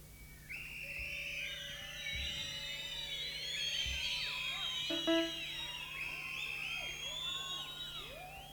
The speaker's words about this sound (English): Is there more than one Acme Thunderer in the audience? Everybody that's got a whistle, blow it.